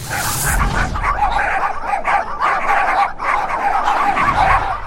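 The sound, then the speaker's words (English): Many dogs bark, yip and whine at once at a dog park in a dense, continuous chorus, the overlapping high-pitched calls loud and steady throughout with no pauses and no one talking. “Say, dog park. Lots of energy close together.”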